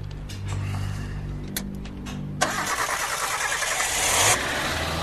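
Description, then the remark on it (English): The engine of a Samurai, dead until now, cranks with a steady low, rhythmic churn for a couple of seconds, then abruptly catches and fires up into a loud, rough roar that swells briefly before settling. “we need to get it cranked before we do anything, don't we, Pop?”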